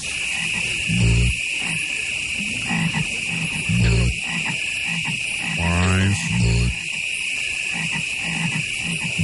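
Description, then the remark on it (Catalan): Deep, resonant frog croaks from a Budweiser beer commercial sound off one at a time in a slow, uneven sequence, set against a steady high-pitched chorus of night insects. “N'hem posat dos, el primer, amb unes simpàtiques granotes.”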